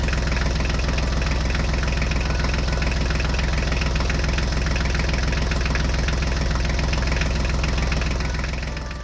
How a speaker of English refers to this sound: Look, it's a tractor. Let's drive it around the farm. Let's circle the tractor.